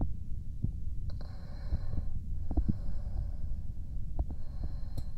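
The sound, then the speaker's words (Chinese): Muffled, low thumping beats of a mother's heartbeat pulse through a constant rumble, as if heard with an ear pressed to her chest, with a faint high whine drifting in and out. “听听母亲的心跳。”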